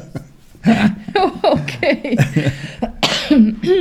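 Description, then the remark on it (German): A handful of short coughs run together with breathy chuckling, each burst rough and abrupt, with no clear words spoken between them. “Ich traue mich nicht mehr zu husten hier.”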